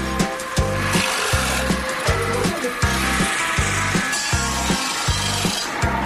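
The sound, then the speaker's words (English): A mortise and tenon buzz ring saw, made partly from a Ford car, cuts through wood with a loud, harsh grinding rasp, pulsing in a steady rhythm of roughly eight heavy strokes, with a low engine-like drone underneath and no voices. “Although the cutting methods and machines have changed down through the centuries, it's doubtful Henry Ford ever dreamt that one of his cars would end up covered to what the guys here refer to as a mortise and tenon buzz ring.”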